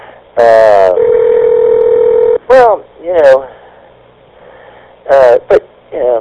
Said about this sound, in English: I don't know what that was. That was weird, the phone ringing like that. I have no idea what that was.